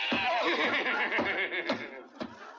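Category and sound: animal, horse neighing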